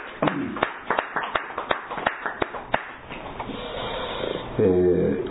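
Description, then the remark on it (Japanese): A short burst of audience applause celebrating wedding anniversaries and a 59th birthday: about a dozen sharp, fairly loud claps in an uneven rhythm for roughly three seconds, then it fades out and a voice begins speaking. “合わせて拍手でお祝いを。”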